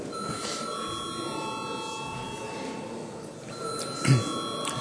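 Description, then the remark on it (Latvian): A steady electronic bell tone rung before a vote in the Latvian Saeima (parliament) holds several even pitches without a break, over a low murmur of background noise and a soft thump near the end. “Lūdzu zvanu.”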